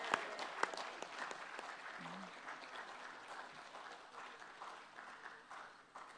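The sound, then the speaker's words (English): A crowd applauds the organisers of a string of conventions, a dense wash of many hands clapping that holds at an even loudness throughout before easing slightly at the end. “Let's have another huge round of applause.”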